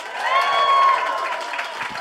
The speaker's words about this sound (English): We always start these live shows by asking for a round of applause. If you've ever heard our podcast, Do Go On before.